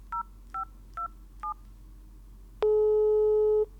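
Four quick dual-tone dialing beeps in an even rhythm, then a pause and a single long, steady telephone ringing tone lasting about a second over a low background hum, as a call is placed to a man in his 80s in Kampen. No one speaks.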